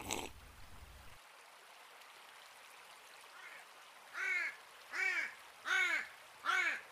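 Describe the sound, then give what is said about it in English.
Large black ravens caw in a steady series of four loud, harsh calls, evenly spaced, after a fainter first call, over a soft background hiss like running water. “Elijah became accustomed to hearing their caw and the flap of their wings”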